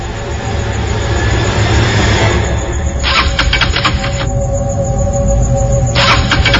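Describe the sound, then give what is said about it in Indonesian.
A motorcycle engine being started again after it stopped, its fuel tank still full: a loud, steady mechanical rumble broken by two bursts of harsh, rattling cranking, one lasting about a second and a shorter one near the end. “Aku cek bensin. Masih penuh. Aku lalu coba menyalakannya lagi.”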